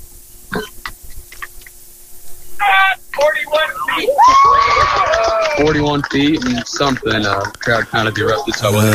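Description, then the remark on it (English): A crowd at a shot put competition suddenly bursts into loud cheering and shouting after a few seconds of quieter sounds, reacting to a throw of about 41 feet. The roar of many overlapping voices stays strong and sustained until the end. “Crowd kind of erupted.”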